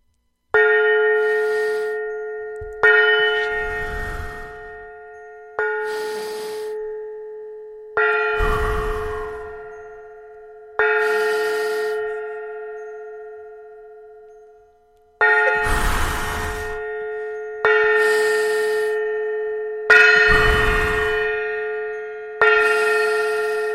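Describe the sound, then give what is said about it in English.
A gong is struck about nine times at a slow, slightly uneven pace during a guided deep-breathing exercise, each loud hit ringing out and fading before the next. No one speaks. “We're going to do 10 gongs on the gong.”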